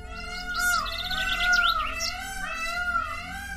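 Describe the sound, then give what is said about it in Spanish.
Loud, wailing calls of peacocks at a zoo where dozens or hundreds of them live: drawn-out harmonic cries almost like a cat's meow, rising and falling over the whole stretch, with quick chirps from other birds scattered above them. “El sonido que más se escucha en el zoológico es el que hacen los pavos reales.”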